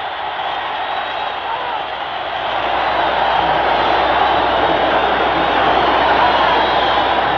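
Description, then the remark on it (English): A boxing crowd cheers after referee Al Burrell stops the fight in the ninth round, a loud, continuous roar of mixed voices that swells slightly after a couple of seconds and then holds steady to the end. “Listen to the crowd.”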